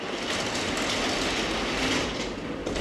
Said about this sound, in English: George pulls down a very cool-looking, transparent garage door to close off the conference room. The door is a throwback to the time when this loft office was a garage.